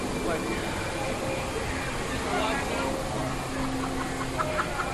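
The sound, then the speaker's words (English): A boat's jet propulsion engine runs steadily, a loud continuous drone with a rushing, water-churning hiss, while indistinct voices murmur faintly underneath. “The jet system's trying to push us like.”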